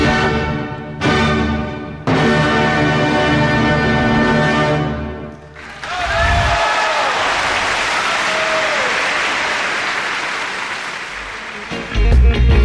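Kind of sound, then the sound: crowd, concert audience applauding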